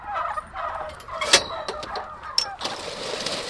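A dense chorus of hundreds of heavy turkey toms, averaging 45 to 46 pounds, gobbling all at once inside a barn outside Sacramento, California; overlapping calls rising and falling in loud, continuous waves with sharp individual gobbles bursting out.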